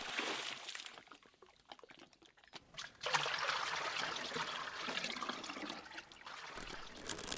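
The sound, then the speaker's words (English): Water trickles and splashes briefly, pauses, then pours in a steady, louder stream for several seconds, with no voices, as Dvorah draws water to wash Yael's hands. “Dvorah drew the water and made Yael sit.”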